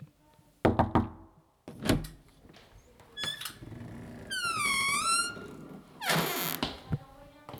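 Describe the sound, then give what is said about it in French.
A few solid knocks on one of four doors in the corridors of the Jeunette Verte, then a long creaking squeak as it swings open, ending with a heavy bump; fairly loud, with no talking. “Mais il y a 4 portes. Laquelle choisir ? On va choisir celle-là, ça doit être la bonne.”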